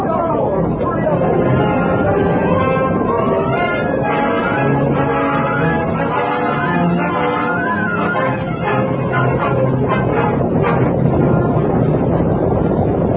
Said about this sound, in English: It's buffalo. They're pouring out of the valley like water. I see them now. They're heading right this way.